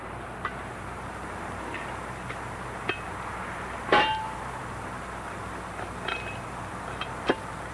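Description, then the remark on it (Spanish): Irregular metallic clanks and scrapes as two men pry up a manhole cover with a crowbar on a quiet street at night, with a louder ringing clang near the middle and several sharper knocks, over a steady low background hum. “La calle apenas es transitada y mientras Pino vigila oculto tras una pared, Ernesto y el gordo se empeñan en levantar la tapa de una alcantarilla.”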